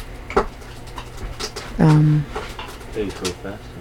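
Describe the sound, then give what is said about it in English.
A person mimics an eagle's squeaky call with one loud, sustained vocal note lasting about half a second, surrounded by softer, shorter voice sounds. “This eagle makes some kind of noise.”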